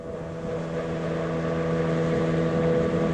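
A boat's motor drones steadily as it makes its way down the Podkamennaya Tunguska River near the village of Vanovara, amid heavy smoke from fires: a continuous, fairly loud hum with a low tonal rumble and broad wash of engine noise, holding even throughout with no voices.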